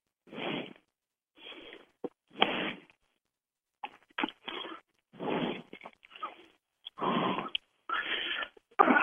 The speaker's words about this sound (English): Somebody's breathing in the mic.